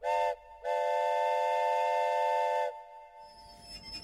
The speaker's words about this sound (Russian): Поезд, замедлив ход, словно крадучись, подбирался к Москве.